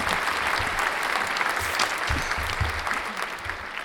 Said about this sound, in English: A round of applause from our assembled studio audience.